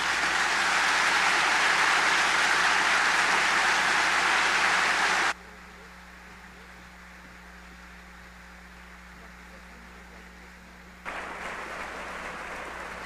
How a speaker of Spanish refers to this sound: Por todo ello, felicidades y un fuerte aplauso al Liceo Raúl Padilla por habernos dejado esta gran obra.